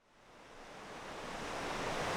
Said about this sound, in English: On my tour with Dave, I walk up close to the river, to where I can hear the water flowing, and I point my mic its way. This is the Klamath, acting like a river again where it hasn't in a long time.